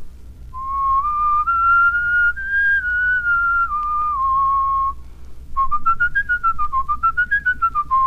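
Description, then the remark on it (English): A person whistles a plain melodic line as a whistling exercise, first legato, smoothly gliding between connected notes, then repeating a similar phrase staccato in short, detached, more rapid notes with a pulsing rhythm over low background hum. “You'll notice that this is just a plain whistle.”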